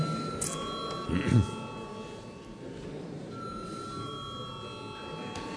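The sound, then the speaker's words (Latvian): A parliament chamber bell rings before a vote on a budget bill, as a steady, sustained electronic tone with several bright pitched layers, holding evenly for several seconds over a low murmur of room noise. “Paldies, lūdzu zvanu.”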